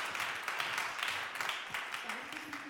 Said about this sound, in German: Gebt ihr doch einen herzlichen Applaus